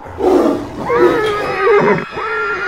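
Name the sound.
lion roaring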